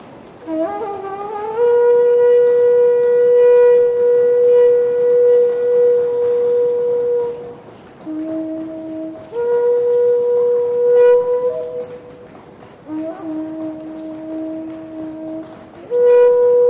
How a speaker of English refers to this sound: So that's how they made that trumpet? That's how they made this trumpet. Yeah, it's just a horn.